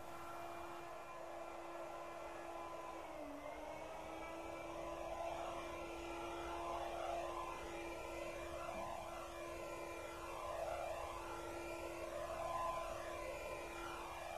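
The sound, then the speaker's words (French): A vacuum cleaner drones steadily with a low hum, and after a few seconds a sweeping flanger effect sets in, making the whoosh swirl and phase up and down in slow waves. “Ambiance aspirateur avec apparition d'un effet de flange.”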